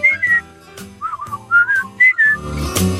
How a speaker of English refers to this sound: Ah, grumble. Give a whistle.